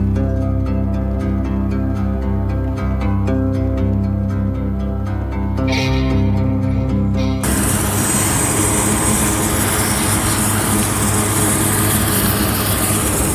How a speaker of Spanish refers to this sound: Miles de soldados reaccionaron e intentaron llenar el reactor con 5.000 toneladas de boro, dolomita, arena y barro que lanzaron desde helicópteros de transporte que estuvieron sobrevolando el reactor varios días.